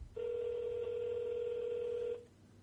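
A single steady ringback tone from an outgoing phone call, lasting about two seconds at a constant level, then cutting off into a quiet, hissy line. No one speaks.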